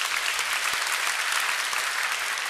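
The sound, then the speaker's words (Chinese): An audience applauds in praise of God, a dense, steady wash of many hands clapping that holds at an even level throughout, with no voices standing out. “我们拍手给上帝。”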